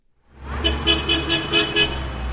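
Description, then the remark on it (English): A city bus horn in downtown Des Moines, Iowa, sounds in a quick run of about six short, evenly spaced, loud toots over a steady low engine rumble of traffic, as the driver honks while making a turn at an intersection. “That's a bus whose driver has been ordered to honk when making any turn.”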